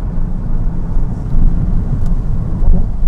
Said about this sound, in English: It is fucking gray. Visibility is down to like a half mile. Can't see a thing. Cars driving around with no lights on.